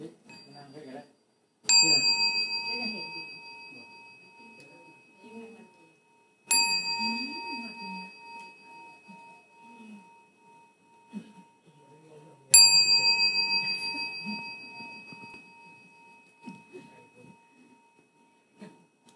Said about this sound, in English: You listen to the sound of the bell.